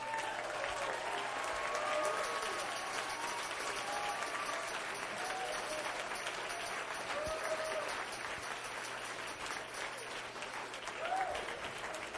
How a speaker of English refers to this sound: I want everybody that is receptive to the Word of God, I want you to stand up and clap your hands and give God praise.